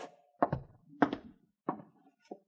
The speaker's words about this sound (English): What is it? Horses. Listen.